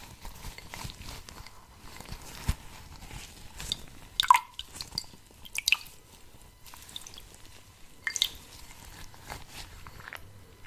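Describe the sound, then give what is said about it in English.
Quiet wet sounds: a cloth being soaked deeply in water, squished and dripping in irregular little bursts, with a few sharper splashy moments and no one talking. “Really need to soak it up, the product, the water needs to really get deep into your skin, and we can only achieve that by really soaking the cloth deeply.”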